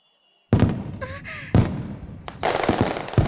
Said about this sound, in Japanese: 打ち上げ花火すごいです、キラキラふわーって火花が夜空に。さっき言っていた町おこしってやつですね。綺麗ですね。